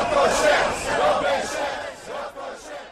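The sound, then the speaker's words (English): A crowd of about 10,000 angry students protesting proposed reforms outside government headquarters, shouting together, loud and continuous, with voices rising in rough rhythmic surges like chanting, filling the whole scene. “Cabinet ministers remained behind closed doors on Wednesday as a crowd of 10,000 angry students stood outside government headquarters in an effort to make their voice heard against the proposed reforms.”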